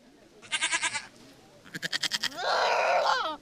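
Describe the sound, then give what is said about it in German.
Goats, about two dozen tethered in the grass awaiting distribution, bleat three times in quick succession: two quavering, stuttering calls followed by a longer, steadier, higher-pitched bleat. The calls are fairly loud against a quiet background, with no talking. “Noch stehen die etwa 2 Dutzend Ziegen, die heute verteilt werden, angebunden im Gras.”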